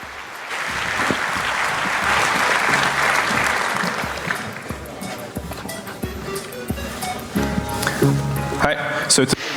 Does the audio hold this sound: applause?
yes